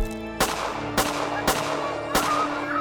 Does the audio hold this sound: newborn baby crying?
no